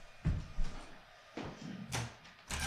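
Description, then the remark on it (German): A window is shut: a few dull knocks and thumps, a brief sliding scrape, then a firmer clunk as it closes. Nobody speaks. “Ja, ich überlege gerade, ob ich das Fenster mal zumache.”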